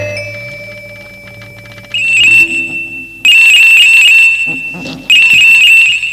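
A phone rings with a loud, warbling electronic tone in three repeated bursts separated by short pauses, with no one speaking.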